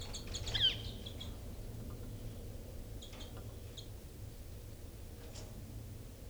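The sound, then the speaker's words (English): Caged birds in cells, birds numbered 318 and 298, call in short, high chirps, a quick cluster near the start and a few fainter tweets later, over a steady low background hum. No one speaks. “So recording now birds 318 and 298.”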